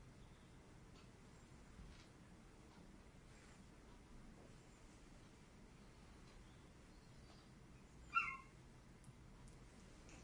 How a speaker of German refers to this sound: Das war die Katze, ne? Miau. Miau.